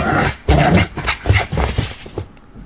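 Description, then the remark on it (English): A dog lets out a quick run of loud barks and yelps mixed with high whimpering whines, the sounds tumbling over one another before trailing off. “I can't remember what that dog's called.”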